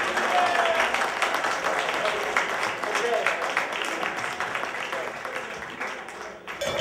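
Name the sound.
audience applause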